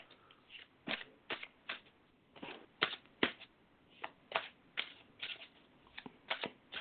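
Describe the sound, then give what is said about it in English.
A deck of cards, the Right Away deck, being shuffled, a quick series of crisp riffling bursts and soft slaps in an irregular rhythm, with no talking. “I'm going to shuffle them a little more.”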